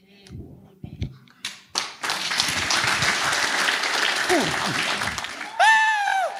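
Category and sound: crowd, audience applause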